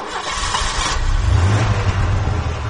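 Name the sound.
car engine revving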